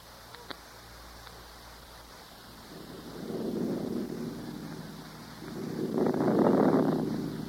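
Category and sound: nature, wind rising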